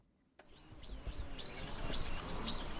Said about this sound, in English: Only birds and insects break the silence at a gold mining site in the eastern region of Ghana, at the foot of the Atewa Forest Reserve.